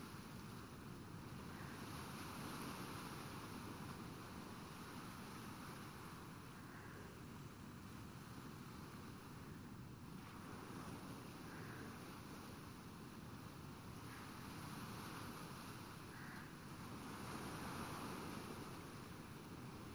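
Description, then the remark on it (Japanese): Steady ocean surf washes against the shore under a blue sky for the whole stretch, a dense, continuous roar with gentle swells rising and falling, mixed with some wind rumble and no voices. “それではもう一度、この素敵な青空と海に乾杯。”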